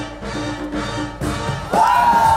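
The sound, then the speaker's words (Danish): The dance crew Lack of Crowns shouts and cheers together while dancing on the floor in France, in a dense, continuous roar of voices that swells louder partway through, with one sustained, ringing high cry standing out near the end. “Og det er selvfølgelig mit hold, der råber.”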